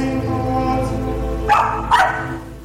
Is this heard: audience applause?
no